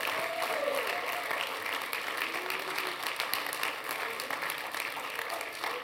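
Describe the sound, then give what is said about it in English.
An audience claps hands to celebrate and praise the Lord in a dense, steady burst of applause, loud and continuous for several seconds, with faint voices murmuring and calling out beneath the clapping. “And when you're caught in one of those moments and you don't know what to do because it's a crisis building around you, if you don't know what else to do, clap your hands.”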